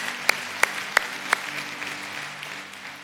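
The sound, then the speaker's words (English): An audience applauding in praise of God: four sharp, evenly spaced claps ring out first, then a softer, scattered patter of applause that slowly fades. No one speaks over it. “Let's give him praise today.”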